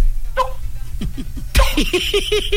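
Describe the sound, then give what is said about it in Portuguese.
Someone imitates with their mouth rainwater dripping from leaks, making a quick, rhythmic series of wet, pitched plops. The drips grow louder and brighter partway through, with a short burst of noise. “tu sabe imitar uma chuva com água na pingueira pingando?”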